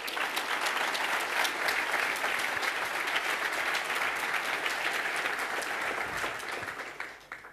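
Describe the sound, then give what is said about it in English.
A large audience claps steadily for several seconds, a dense, sustained wash of applause that holds level before tapering off near the end, welcoming speakers from the Shellfish security team of UC Santa Barbara. “Give a warm applause.”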